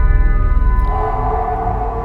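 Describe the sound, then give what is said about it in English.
A long, loud animal howl, like a coyote's, heard in England, holds a steady, mournful tone and shifts pitch slightly partway through, with no voices over it. “Did you hear that? What was it? A coyote.”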